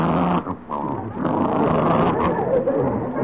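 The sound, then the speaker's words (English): A dog growls in a low, rough, sustained rumble for about three seconds, loud and continuous apart from a short dip early on before it swells again. “You hear that, sis? I certainly did. That's just what he sounded like when he bit me.”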